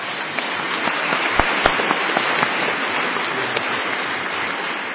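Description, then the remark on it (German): An audience at a family church service applauds to thank the team that prepares the family services: a steady, dense patter of many hands clapping at an even loudness for several seconds, with a few sharper individual claps standing out. No one speaks. “Darf man ruhig mal klatschen, ne?”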